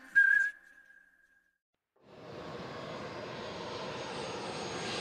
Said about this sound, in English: December 2010. The wheels of the impressive private jet touched down in snowy Moscow.